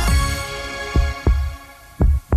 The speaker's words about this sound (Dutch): Ik hoor de heartbeat. Ja, zijn hartslag.